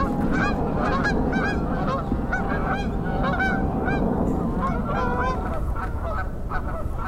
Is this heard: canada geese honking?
yes